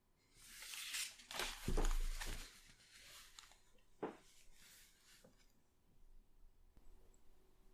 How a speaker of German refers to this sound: Wir hören nur das Atmen wieder und das Klappern des Bestecks.